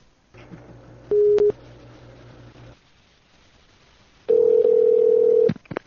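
A telephone dial tone hums steadily with a brief beep over it, then falls quiet before a loud, long ringing tone sounds once, as a phone call is placed to ask about free samples. No one speaks.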